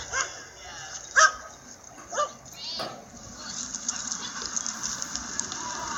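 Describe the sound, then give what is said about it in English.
Two highly excited dogs with hackles up play tug with a toy at a dog park, letting out a few short yips and barks about a second apart, with a steady background hiss and faint murmuring beneath. “So this dog is using the toy as a play, you know, please play tug with me. Both of these dogs are in arousal.”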